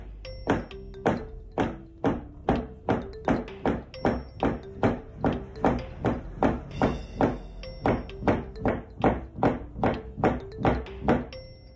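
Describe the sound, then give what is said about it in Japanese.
A noodle knife push-cuts dough on a wooden board in a steady series of about thirty chops, each a sharp thunk in an even, unhurried rhythm, with no talking over it. “こういう感じで切っていきます。でスピードもね、ゆっくりで構いません。”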